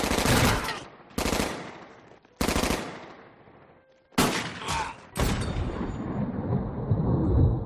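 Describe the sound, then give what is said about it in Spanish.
A rapid series of loud gunshots, sharp blasts at irregular intervals with echoing tails, then a dense volley of overlapping fire as a large group of agents shoots a man in the back outside a cinema in Chicago on 22 July 1934; no one speaks. “John Herbert Dillinger caía abatido a tiros por la espalda por un nutrido grupo de agentes”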